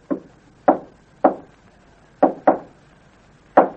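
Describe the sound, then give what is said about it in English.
Six sharp knocks on a wooden living room door in an uneven, deliberate signal pattern: three evenly spaced, a pause, two quick ones, then a final knock. They're distinct, with no voices. “After you have had glass tested for fingerprints, you will return to living room, knock on door this way.”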